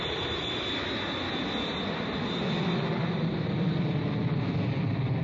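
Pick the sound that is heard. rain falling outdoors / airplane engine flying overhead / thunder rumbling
airplane engine flying overhead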